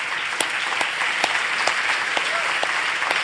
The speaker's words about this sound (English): And it's an honour to welcome some brothers and sisters from mainland China tonight, from the house churches of China. Now, for this next section, yeah, do give them a clap.